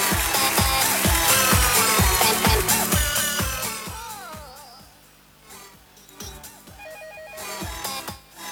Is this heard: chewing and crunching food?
no